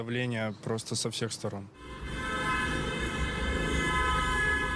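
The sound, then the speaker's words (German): After a brief stretch of someone talking, many car horns blare together in a loud, steady, overlapping chorus of held tones that continues to the end, as motorists honk in solidarity with the opposition during a street protest. “Stattdessen wird viel gehupt. Autofahrer signalisieren ihre Solidarität mit der Opposition.”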